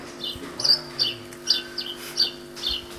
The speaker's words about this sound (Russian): Воробей.